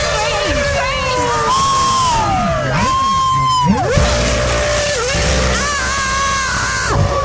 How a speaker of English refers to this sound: Let's wait for the next one and we're going to get the crowd to scream. So here comes the next one. It's just leaving the pits. McLaren Mercedes, Chris Goodwin driving that round the corner. Okay, everyone get ready to scream.